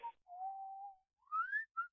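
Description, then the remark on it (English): A person whistles a short tune: a long steady note, then a rising slide and a brief final note, clear with no talking. “And the sound that reminds me the most of my grandfather is the sound of whistling.”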